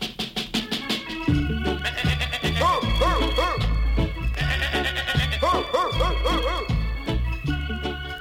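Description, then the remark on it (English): Wavering goat bleats ring out in short bursts of three or four over a loud, steady musical backing with a thumping beat, repeating twice as part of the tune. “begging a helping hand to catch his musical goat.”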